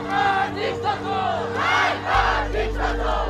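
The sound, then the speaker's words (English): A large crowd of demonstrators in Tehran, Iran, chants "Death to the dictator" in loud, rhythmic unison in the street, many voices rising and falling with each shouted phrase, while a low steady rumble grows stronger partway through. “In the capital, Tehran, demonstrators chanted, "Death to the dictator."”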